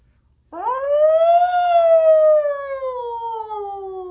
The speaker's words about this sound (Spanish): Solo que en el campo, cuando uno escucha el silencio, siempre se perciben ruidos a lo lejos. Y oí una sirena de bomberos.